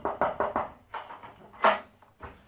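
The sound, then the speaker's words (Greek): A quick run of knocks on a door, then a louder clunk as the door is opened to let in a visiting inspector, followed by a few softer bumps; moderately loud, with no talking. “Περίμενε μια στιγμή, είναι κάποιος στην πόρτα. Ναι, αυτός είναι. Ορίστε μέσα, κύριε επιθεωρητά.”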